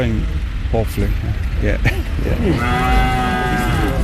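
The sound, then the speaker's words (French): Several dairy cows moo on a farm in County Cork, southern Ireland, from a herd of about a hundred dairy cows kept for cheese production. Overlapping low calls come from different animals, some louder, others softer, with a steady background rumble and a long drawn-out moo at the end. “John, qui possède une centaine de vaches laitières pour la production de fromage”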